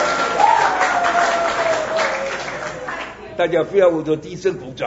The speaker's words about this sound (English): 大家不要为着地震鼓掌了啊。Earthquakes do not need applause.